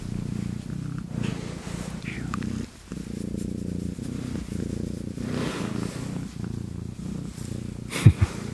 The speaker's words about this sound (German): Komm, leg dich mal hier hin. Ich drehe mal das Mikrofon ein bisschen. Vielleicht hört man sie dann schnurren.